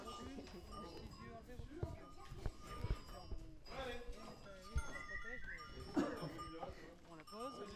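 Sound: goats bleating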